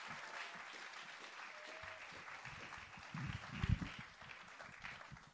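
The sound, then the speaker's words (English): Steady applause from a crowd as a woman comes onto a stage: a dense wash of many hands clapping without pause, growing a little louder and fuller toward the end before trailing off. “Let's give her a round of applause, please, as she comes onto the stage.”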